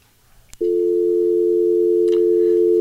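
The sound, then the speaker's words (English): A click, then a steady, loud continuous phone tone after a call is hung up, holding unbroken at the same pitch until the end, with a faint brief click partway through. “You just hung up on him.”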